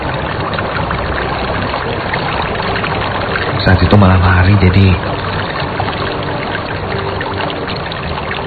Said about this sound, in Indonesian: Terdengar suara air dari kejauhan. Aku coba dekati dan ternyata di sebelah bangunan ini adalah sungai.